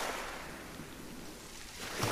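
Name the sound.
sea waves and water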